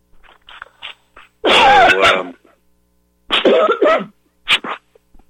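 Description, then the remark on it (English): A person with a lingering dry cough lets out a series of harsh, dry coughs: a long hacking fit, a pause, then two more rough bursts. Small throaty sounds come before them, and no one speaks. “No, just got that cough that seems to hang on from time to time.”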